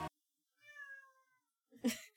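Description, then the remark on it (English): A person imitates a cat with a single drawn-out, slightly falling meow, convincingly catlike, followed by a brief, louder burst of voice. “…, that was a very good cat noise”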